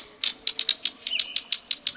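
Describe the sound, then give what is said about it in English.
A rapid series of dry, sharp clicks from a green kingfisher in southern Texas, about a dozen evenly spaced ticks like pebbles tapped together, over a faint quiet background. “Like two pebbles clicking together, the green kingfisher's quiet call can be heard at wooded streams and ponds.”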